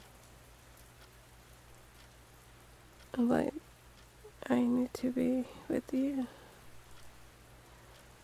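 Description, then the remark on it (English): Steady rain patters throughout, a soft continuous hiss of drops hitting a surface, while a person speaks briefly over it in a couple of short bursts. “It's raining.”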